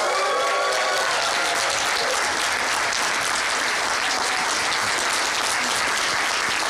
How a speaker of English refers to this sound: And now, give a huge applause to my friend Greg Sestero.